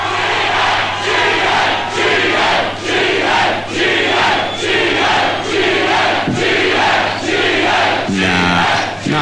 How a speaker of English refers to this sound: It was packed. It couldn't have been any more packed, actually. And they were very loud and raucous, as you're about to hear.